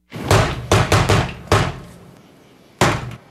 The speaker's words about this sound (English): Negan has the standard, the knock